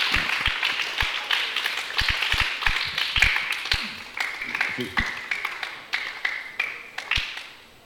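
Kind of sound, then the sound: crowd, clapping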